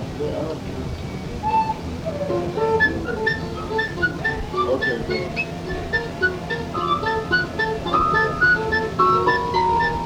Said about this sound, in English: Use a tin whistle.